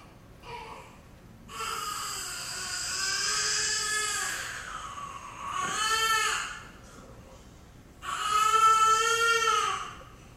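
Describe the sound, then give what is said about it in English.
A newborn baby boy cries in three loud, strained wails, forcing air through his vocal folds: a long one, a shorter burst, then another sustained wail, with brief gasping breaths between them and no talking. “he's going to show you how a newborn cries.”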